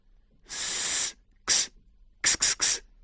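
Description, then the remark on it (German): A voice imitates hissing: one long breathy hiss, then a short one, then three quick clipped hisses in a row, all bright and airy with no words. “Der hat da nur noch Zischlaute von sich gegeben. So zisch, zisch.”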